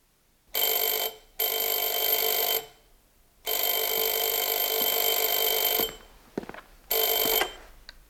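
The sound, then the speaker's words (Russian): A telephone bell rings loudly in long bursts of several seconds separated by short pauses, with no voices heard. “Я у телефона.”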